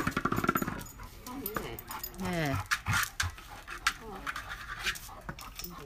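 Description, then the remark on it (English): A dog pants in quick rhythmic bursts, then shuffles and scrapes about, with scratchy thumps and a brief whine as voices talk over it. “Mind you, don't let him crush it over your feet.”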